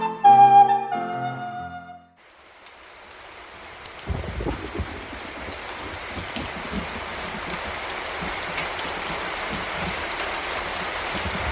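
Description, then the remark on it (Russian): After a short musical intro, steady rain sets in and keeps hissing loudly and evenly to the end, with scattered low thumps and patters mixed into the downpour. “Когда уже этот дождь прекратится?”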